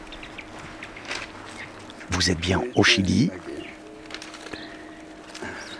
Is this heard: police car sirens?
no